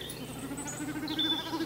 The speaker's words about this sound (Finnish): Taivaan vuohesta on pakko kertoa, että tämä ääni ei tule nokasta, vaan pyrstösulista.